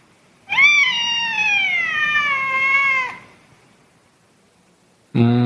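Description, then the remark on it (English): A cat lets out one long, drawn-out meow, its pitch sliding slowly downward over a couple of seconds, followed by quiet before a voice starts right at the end. “Okay, cat. Thank you very much for your advice.”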